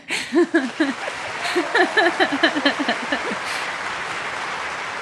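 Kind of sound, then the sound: crowd, applause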